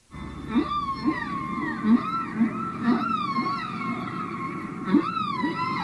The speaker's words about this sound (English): And if you're queuing through this tape using the queue and review facility on your tape recorder, then in a few seconds' time you'll hear a whistle again.